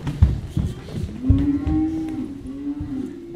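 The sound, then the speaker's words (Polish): Cows low in long, drawn-out moos, one steady call rising and holding for several seconds, with a second animal overlapping near the start and a low rumble of outdoor background. “Pilnuj tasę krowy! Pod wodę idą!”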